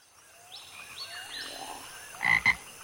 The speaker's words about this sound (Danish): Sådan en her hedder jo en frø.